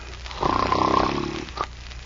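A man gives a single loud, rasping snore lasting about a second, followed by a brief softer snort and then quiet.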